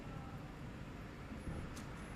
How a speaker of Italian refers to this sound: Sono in auto.